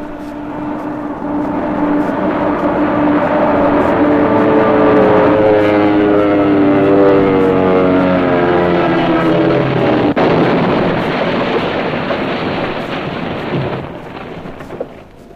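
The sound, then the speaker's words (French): A propeller airplane, carrying General Leclerc back to Colombe-Béchard on 28 November 1947, drones loudly and steadily overhead, its engine pitch sliding in a clear Doppler sweep as it passes, followed by a rougher, rushing roar that fades slightly toward the end. “Et puis le 28 novembre 1947, alors qu'il regagnait Colombe-Béchard en avion...”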